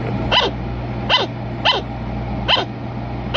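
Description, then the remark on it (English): A sugar glider barks in a steady series of five short, sharp yips spaced roughly a second apart, clear over a low constant hum. “That's just them barking.”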